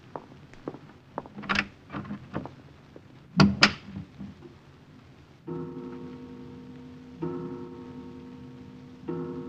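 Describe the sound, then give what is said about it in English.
An unlatched door opens as someone walks in, with a few light clicks and taps, then a solid thunk as it swings, followed by a steady low droning tone in the background. No one speaks. “Forgive me for just walking in, Herr Leutnant. Good evening, Herr Kommandant. The door was unlatched.”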